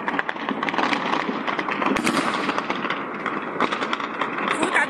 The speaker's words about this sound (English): Footage from the scene showed people running in the streets against a backdrop of continuous gunfire.